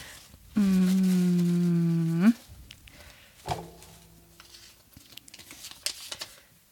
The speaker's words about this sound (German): Raschel, raschel, raschel, raschel.